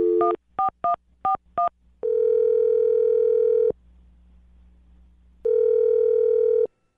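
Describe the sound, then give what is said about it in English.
A quick burst of five or six touch-tone dialing beeps as a host of the radio show Brooke and Jubal in the Morning dials a woman's phone number, then long steady ringback tones separated by a pause, clear with a faint low hum between them. No one speaks. “I'm going to dial her phone number right now and see if we can get her on the phone.”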